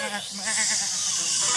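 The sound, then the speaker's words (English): A voice imitates a worried sheep at a barn: a wavering, quavering "baa" held for over a second, fairly loud with no other sounds around it. “The sheep were worried.”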